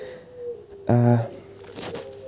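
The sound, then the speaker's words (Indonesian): At night, a single loud, harmonic call rings out for about a third of a second from birds beside a room, followed by faint rustling and a soft steady hum in the background. “aduh burungnya pada bunyi lagi. Udah malam, burung-burung samping kamar ini pasti bunyi.”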